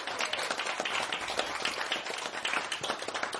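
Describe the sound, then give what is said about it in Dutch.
An audience in the jazz club of the Prins Klaus Conservatorium in Groningen applauds the musicians after a live performance, many hands clapping in a dense, continuous crackle that holds at an even, moderately loud level without any voices. “Alle muzikanten, geef ze nog één keer een applaus.”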